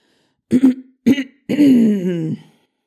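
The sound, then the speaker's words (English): A man clears his throat in an exaggerated, theatrical way before reading from a page ripped from a book: two short gruff bursts followed by a long, drawn-out rasping hum that slides downward, loud with no talking. “The next moment, he'd pulled out a page ripped from a book and was clearing his throat dramatically.”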